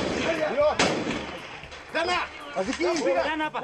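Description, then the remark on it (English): A single sharp pop of a tear gas canister fired by Kenyan police cracks out near the start amid a noisy crowd of shouting opposition protesters in the streets of Nairobi, demonstrating against President Mwai Kibaki's disputed election. The shouting continues throughout. “Police fired off tear gas to try to break up the crowds.”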